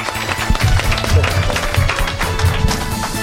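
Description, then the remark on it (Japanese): Steady applause from an audience at an SEC Co. IR seminar for the company's president, a dense patter of many hands clapping at once, fairly loud and continuous throughout, with a low musical hum underneath. “どうぞ皆様大きな拍手をお願いいたします。”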